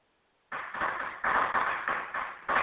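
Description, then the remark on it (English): Fireworks pop in a quick, uneven string of sharp bursts, about three per second, starting abruptly after a short silence and continuing steadily at moderate loudness with no voices. “More fireworks.”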